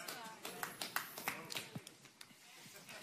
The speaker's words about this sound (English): Don't even bother to clap if you're just going to do it that bad. I mean, come on.